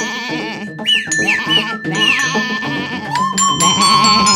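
A goat bleats continually in wavering, nasal cries, loud, with several overlapping calls and a faint high tone underneath; no one speaks.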